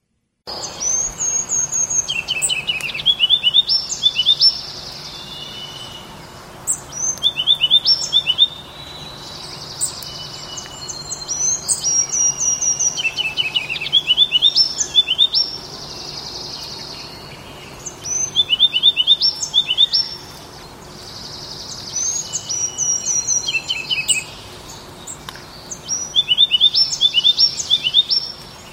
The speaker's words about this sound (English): So that was a ruby-crowned kinglet in the foreground there. There were some other birds kind of singing in the background you might have noticed.